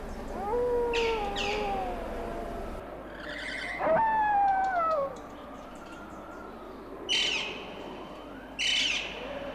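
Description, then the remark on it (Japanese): Long, wavering wolf howls rise and fall over a dim night-forest background, joined by brief high bird chirps and calls; no one speaks. “ひえー、狼の声かな。怖いよ。”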